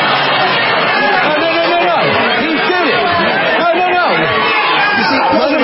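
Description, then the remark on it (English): A crowd at a Senate swearing-in, in C-SPAN footage of a man confronting Joe Biden, many voices talking over one another in a loud, steady babble of overlapping chatter that holds at an even level for several seconds. “Like, and listen to how the crowd reacts.”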